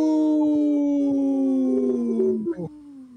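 Several overlapping howls hold long, steady tones that slowly slide downward in pitch, loud throughout, then break into a few short, wavering cries near the end.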